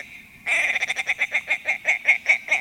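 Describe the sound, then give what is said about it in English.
A male bird with white wings and a chunky, rusty body gives a loud chuckling call as it flies in a long arc over the tundra across the tops of willows: a rapid, steady series of about fourteen throaty, nasal clucks, alone, with no voices. “Picture those white wings propelling that chunky, rusty body in a long arc over the tundra as he chuckles his way across the tops of the willows.”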